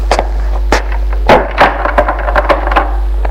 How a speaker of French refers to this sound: Elle l'embrasse et ouvre la porte. Bientôt. Il ferme la porte.